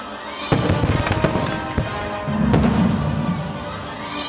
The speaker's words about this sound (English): The convention hosted several public fireworks shows from different professional display companies. Some were choreographed to music.